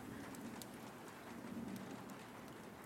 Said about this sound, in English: The subtle sound of raindrops hitting on the roof just makes everything better.